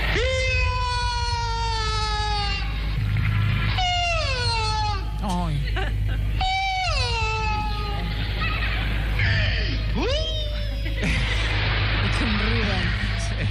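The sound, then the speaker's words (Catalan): A voice lets out a series of long, mournful cat-like howls, each sliding downward in pitch, loud and wavering, over a steady low hum. It is the characteristic howl of the clown Charlie Rivel, his recurring gag. “bueno, el gag recurrent que tenia sempre, no?, aquest udol que fa una mica de pena, no?”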